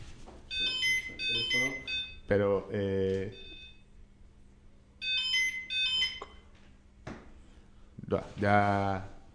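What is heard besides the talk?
telephone ringing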